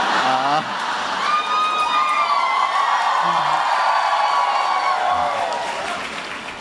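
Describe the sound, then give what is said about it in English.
A crowd applauds and cheers loudly and steadily, with high whoops and shouts rising above the dense clapping, easing off slightly toward the end. “Never gotten quite such an applause before.”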